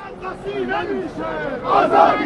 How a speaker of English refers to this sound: Ahmadinejad's supporters were out in force on Monday as well. Tens of thousands gathered at a huge prayer site in central Tehran, marching and chanting, mocking the Mousavi forces.